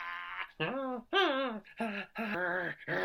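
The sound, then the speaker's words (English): A dog whimpers in a run of five or six short, wavering whines, fairly loud, each rising and falling in pitch with brief pauses between them. “Well, you are a very clever doggy.”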